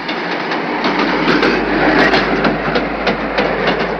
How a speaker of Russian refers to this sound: Поезд остановился на несколько минут. Потом снова затараторили колеса, постепенно учащая бег.